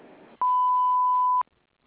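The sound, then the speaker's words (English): A single steady electronic voicemail beep on the answering message of the Feldhaus Home Improvement office, a pure tone lasting about a second, loud, following a brief trail of speech and then fading into quiet. “At the sound of the beep, please leave your name, number, short message, and we'll get back with you as soon as possible.”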